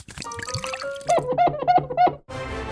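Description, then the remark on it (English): Vinegar poured onto baking soda: a short musical flourish gives way to four quick, bubbly glugs of liquid in a steady rhythm, then a burst of close, hissing fizz. “Baking soda and vinegar?”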